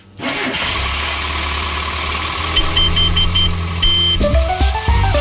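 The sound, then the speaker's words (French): The engine of a Mini, a small British car about 3.05 m long, 1.40 m wide and 600 kg, cranks and catches near the start, then settles into a steady idle with a low rumble and a few light revs toward the end, with no voices. “15h15 sur France Bleu, la revue automobile de nos souvenirs racontée par Nathalie Simon au volant aujourd'hui d'un petit bolide qui incarne la Grande-Bretagne.”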